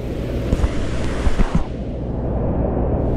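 Steady wind rumbles and hisses outdoors with light rain, a few soft gusty thumps early on, then the hiss thins out while the low roar carries on. No one speaks.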